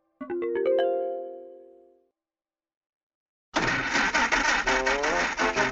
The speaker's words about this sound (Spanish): Pero cuando quiso arrancar el auto, el motor no funcionó. ¡Nos hemos quedado sin gasolina!, exclamó Mike.